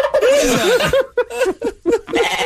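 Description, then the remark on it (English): A barnyard animal sound effect plays from a soundboard button: a series of loud, wavering, bleat-like calls in short bursts with quivering pitch, broken by brief pauses. “Oh, we're barnyard noises now.”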